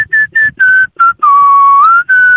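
A person whistles a catchy pop melody up close, clear and pure-toned: a run of short bouncy notes, then one long held note that bends slightly upward. No talking.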